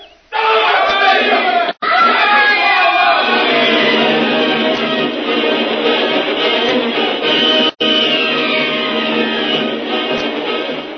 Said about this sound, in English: Suddenly, the slender ropes holding the frail native bridge together pulled away from the rocks. There is a scream of terror from the natives as the bridge suddenly collapses and its occupants are hurtled 150 feet into the swirling waters